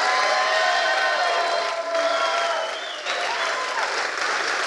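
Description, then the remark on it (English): A crowd claps steadily and cheers, with whoops and shouts rising over dense, continuous applause that holds loud throughout, dipping slightly midway before swelling again. “I said, down here's your cheering section.”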